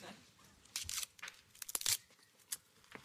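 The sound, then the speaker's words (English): A fortune cookie is cracked open amid crisp crinkling of its wrapper: a few sharp, bright crackles and crunches come in quick irregular bursts, then a last snap near the end. “Here, have a fortune cookie.”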